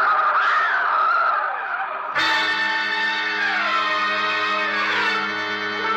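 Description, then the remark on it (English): A truck skids with a loud, sustained screech: a noisy squeal at first, then a harsh, steady high-pitched wail that holds for several seconds, with no voices. “Oh, no. The truck.”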